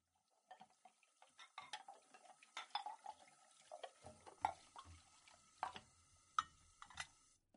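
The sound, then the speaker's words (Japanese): Dishes and cutlery being washed at a sink, with water splashing and a steady run of clinks and clatters from plates and utensils, fairly busy, with no one speaking. “よしと、これでお皿洗いは終了だね。”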